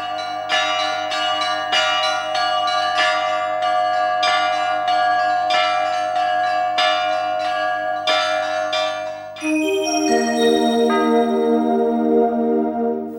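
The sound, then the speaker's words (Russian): Small church bells ring in a steady, gentle peal, bright overlapping strikes repeating rhythmically, then a shift to a higher, sustained chiming pattern near the end. No voices. “Это звон чаще всего нежный, очень таких проникновенных, не самых больших колоколов.”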